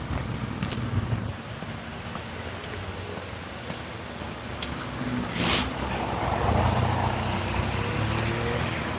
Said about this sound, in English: Let me get across the street so the car can go by.